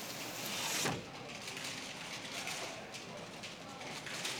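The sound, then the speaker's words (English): A window slides shut with a brief scraping thud near the start, over a steady hiss of rain that continues throughout at a moderate level. “I think it's starting to rain outside. Why don't I close the window?”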